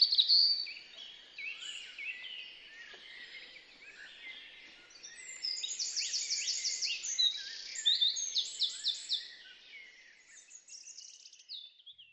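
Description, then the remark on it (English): Bright, busy birdsong fills the air: quick trills and rapid chirping phrases overlapping, with a dense run of rhythmic notes in the middle before it thins out. “So if you're feeling stressed out, try playing a bit of birdsong.”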